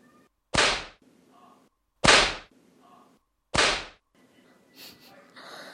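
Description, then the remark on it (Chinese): Three sharp whip cracks land one after another at a steady, unhurried pace, each a loud snap with a short fading tail, followed by faint rustling. “光听到鞭子的声音，肉棒就有反应了。”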